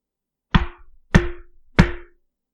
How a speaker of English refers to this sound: A knock came at the door. Three taps.